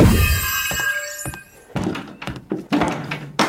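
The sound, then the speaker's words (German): A chair tips over and crashes down, making a burst of loud, hollow thuds and clattering knocks, five or six uneven impacts after a quieter moment with faint scraping. “Ups, der Stuhl.”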